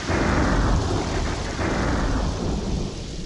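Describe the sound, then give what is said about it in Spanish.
A thunderstorm with a deep, heavy rumble of thunder over steady, hissing rain, loud and continuous throughout, with no voices. “¿Qué escuchó? Claro, es una tormenta.”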